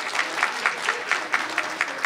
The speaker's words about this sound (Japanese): 今一度大きな拍手をお送りくださいませ。